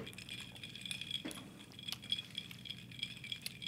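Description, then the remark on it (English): Glass clinking softly as a drink is mixed, with a steady bright ringing and a few sharper taps scattered throughout, quiet, with no one talking. “And I mean, when I say better than it sounds, it sounds like a drink being mixed, and it tastes even better than a drink being mixed.”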